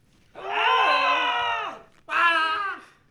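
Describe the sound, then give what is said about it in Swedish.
A small group lets out two loud bursts of hysterical screaming on a given signal, one long sustained shriek followed by a shorter one after a brief pause. “Eller att jag säger hysteriska skrik på min signal.”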